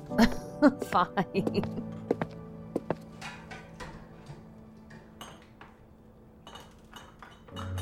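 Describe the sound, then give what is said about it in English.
Dishes and cutlery clink and clatter as dishes are washed, a rapid flurry of knocks at first that thins into scattered taps, with someone's low steady humming while working running underneath. “Here, come help me do the dishes.”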